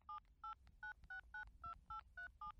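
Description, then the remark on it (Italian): A quick run of about ten telephone keypad tones, each a short, bright two-note beep in a steady dialing rhythm, clear over a faint low background hum, with no voices. “Poi prende il telefono in mano.”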